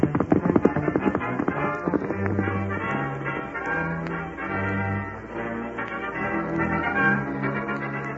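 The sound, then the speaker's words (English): Rapid hoofbeats clatter in a quick, steady rhythm as a spavined horse gallops away, mixed with low sustained tones that shift in pitch underneath. No one speaks. “you're carrying me to Carl Faber's place as fast as them spavin legs of yours will get us there”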